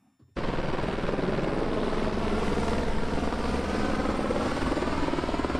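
A loud, steady helicopter roar begins abruptly and holds for several seconds, the rotors' rapid thumping churning overhead with no voices: five small helicopters and a Super Puma dropping water over about 4 square kilometres of a wildfire near the railway viaduct of Brusio.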